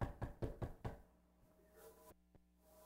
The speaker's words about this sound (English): Now, people will say, well, this is a knock. And then somebody says, this is banging. You could say that.